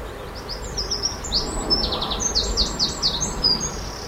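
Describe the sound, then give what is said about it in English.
Birdsong recorded in a garden, a 35-minute loop: repeated bright chirps and short whistled phrases overlap in a steady stream over a soft outdoor background hiss with no talking. “with this 35-minute loop of Birdsong that I'd recorded in my garden 9 months before for something completely different.”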